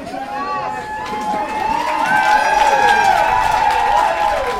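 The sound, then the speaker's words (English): A large crowd of roughly 500 people in New Orleans cheers and shouts together as a bus arrives at its final stop, marking the completion of the Freedom Rides; a dense, sustained wall of voices with rising and falling whoops that swells slightly louder midway and stays steady to the end. “As the Freedom Bus arrived at its final stop, the crowd cheered and a brass band welcomed the riders.”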